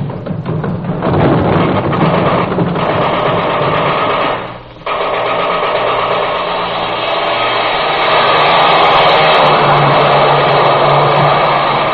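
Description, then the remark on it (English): A loud aircraft engine roars steadily as a boat takes off, with a whining, buzzing drone that briefly dips about halfway through before surging back to full power. No one speaks. “Those Boeing people give wonderful service, don't they?”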